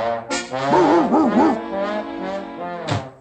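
A happy dog greets its owner coming home from a day's work with excited vocalizations: a sharp bark, then a run of wavering, yelping whines, and one more bark near the end.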